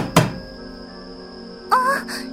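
knocking on a door

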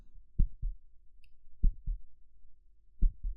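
fast heartbeat

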